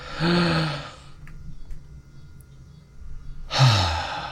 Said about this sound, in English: I literally yawned.